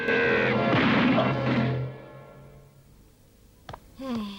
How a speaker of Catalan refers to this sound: El noi es posa en guàrdia. Compte, Son Goku. Es llança sobre el general, clavant-li cops de puny a la panxa i puntades de peu.